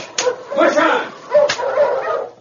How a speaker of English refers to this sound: driver cracked his whip over the heads of the team. They took off down the trail.